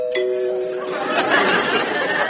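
A doorbell chime strikes right at the start, its bright sustained tones ringing out briefly before fading under a steady wash of noisy background murmur.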